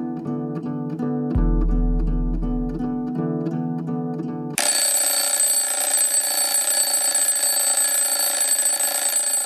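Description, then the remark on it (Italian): A repeating melodic beeping tune plays for a few seconds, then abruptly gives way to a loud, continuous clattering ring of an alarm clock bell that runs to the end. No one speaks. “La sveglia schiaffeggiò Katie con le urgenze, la quotidianità, le scadenze, la realtà e tante altre parole faticose.”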